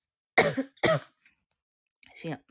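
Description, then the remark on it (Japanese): Two sharp coughs in quick succession, a brief pause, then a softer, rougher cough like a throat being cleared; a cough from a slight cold brought on by air conditioning. “咳は、完全にクーラーです。”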